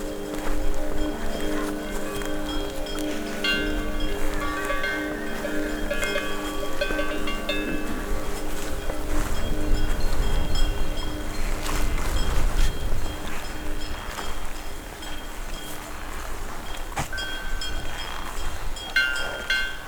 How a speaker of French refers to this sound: Ici, balayée par une légère brise de vallée, c'est un troupeau de vaches en mode pause.